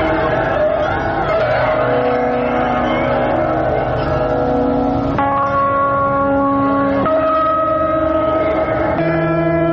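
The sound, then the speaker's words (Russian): A steady roar of traffic on the Garden Ring ring road runs throughout, layered with sustained ringing tones that shift pitch abruptly a few times, giving a loud, continuous drone-like texture. “садовое кольцо, шум которого послужил фоном для нашего разговора.”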